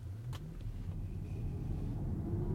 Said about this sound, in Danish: Det er ikke fordi, man kan høre så forfærdeligt meget, når man kører i en elbil, men efterhånden så er biler med forbrændingsmotorer også blevet så lydløse, så det er simpelthen ikke, fordi der er den helt store forskel, hvad det angår.